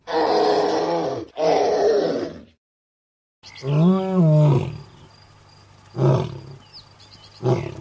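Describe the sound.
A 5-year-old child's voice imitates a lion's roar in two strained bursts, then after a short silence a real lioness lets out a deep, rumbling roar followed by two shorter grunting calls.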